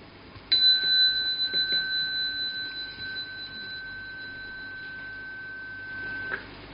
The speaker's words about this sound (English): Okay, I will ring the bell.